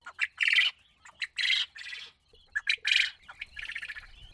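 domesticated quail birds calling

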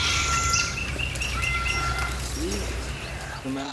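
parrots calling

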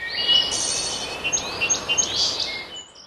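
birdsong

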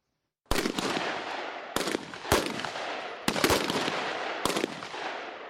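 several gunshots fired

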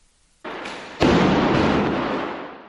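gunfire

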